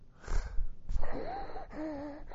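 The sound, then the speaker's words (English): A voice imitates labored breathing: a few harsh, gasping breaths followed by thin, whistling wheezes on each inhale, fairly loud, with no talking. “I heard him. He's having struggle breathing.”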